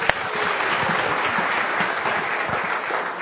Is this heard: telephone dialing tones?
no